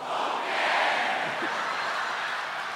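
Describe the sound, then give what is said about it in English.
A large theater audience bellows together in imitation of a donkey's bray, a loud, dense, sustained roar of many voices that swells slightly and holds steady for about three seconds. “If you feel the spirit move you and you want to bellow out a donkey, I think just do it.”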